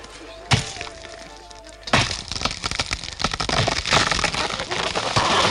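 Two sharp, heavy axe blows strike wood a little over a second apart, followed by a sustained stretch of loud splintering and cracking as the tree gives way.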